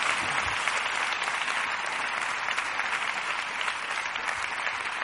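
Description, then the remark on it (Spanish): An audience applauds steadily for the full five seconds, a dense, even wash of many hands clapping at a constant, fairly loud level with no voices standing out. “Podéis aplaudir, claro que sí.”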